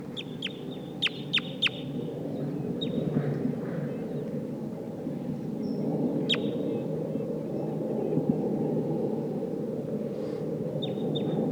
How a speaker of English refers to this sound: So recording, I hear wild crossbills here. It sounds like a Sitkensis type.